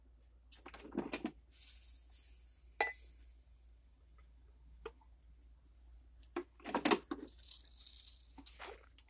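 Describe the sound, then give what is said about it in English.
Black coffee is poured into a coffee cup for a taste test, in two short streams, a soft steady trickling hiss, broken up by sharp clinks and knocks of the cup and pot being handled. No one speaks. “I'm going to pour some in a little bit into a coffee cup.”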